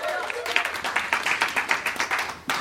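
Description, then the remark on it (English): An audience claps their hands for a performer being introduced, a steady burst of applause, many overlapping sharp claps forming a bright, dense patter that holds at a moderate level for a few seconds. “Clap your hands for Mr.”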